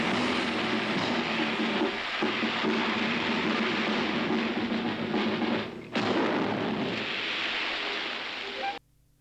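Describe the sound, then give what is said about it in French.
Jimmy McDonald's wave sound effect machine for Disney, a look-alike cousin to the Rainmaker used to make surf sounds for Goofy riding a surfboard, churns out a steady, loud rushing hiss like surf, swelling and dipping twice before cutting off abruptly near the end. “McDonald's wave machine was a look-alike cousin to the Rainmaker. C'est pour faire les bruits de vagues, en fait.”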